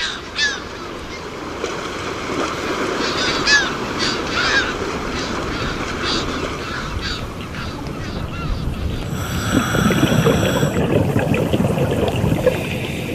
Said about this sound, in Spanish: Al amanecer en el puerto de la isla de Cabrera. Aquí, al aire libre, en nuestro medio, el sonido nos resulta familiar, tranquilizador.